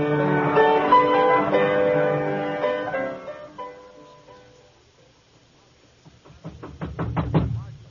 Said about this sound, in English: Who do you think you are banging on people's doors this time of night?